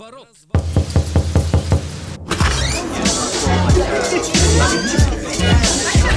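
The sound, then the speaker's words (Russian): A person breaks down a door at Radio Boltkom: it is pounded with a quick, steady run of about seven heavy blows, then loud rattling and scraping as it is forced, with a murmur of voices around it. “Ребята, а это я ломаю дверь.”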